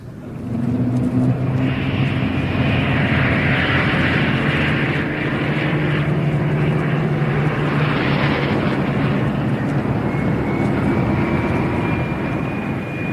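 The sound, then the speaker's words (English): A loud, continuous roar of 1,000 aeroplane engines taking off towards Blackpool, a dense droning mass with whining tones rising above it, steady for the whole stretch with no voices. “What a sight! 1,000 planes taking off towards Blackpool.”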